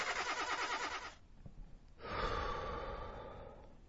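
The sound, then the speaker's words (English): A Neon car's engine cranks with a rapid, rhythmic churning that fails to catch, pauses for a moment, then grinds over again without starting. Fairly loud, with no voices. “Stupid neon won't start again. Let me try once more.”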